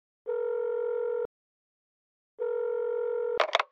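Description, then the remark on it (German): A man dials a number on his mobile phone and the ringback tone sounds twice, each steady buzzing ring lasting about a second with a pause between, followed by a brief clattering click as the line is picked up. “Zitternd wählte er die Nummer seines Sponsors Knutson Bonde.”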